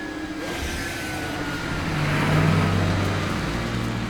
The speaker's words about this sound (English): As security vehicles take positions in front of the nose of the aircraft